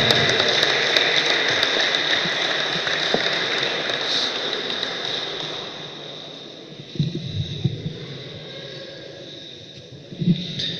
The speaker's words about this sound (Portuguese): Uma salva de palmas.